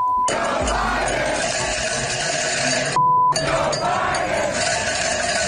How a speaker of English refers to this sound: They're well organised. They've got the cowbell and everything. And it's not a hard tune. This is another crowd. They love a cowbell in America. F. Joe Biden.